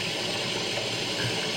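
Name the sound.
waterfall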